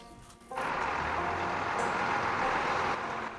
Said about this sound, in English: Outside, the refuse truck has arrived and Linda hears its engine.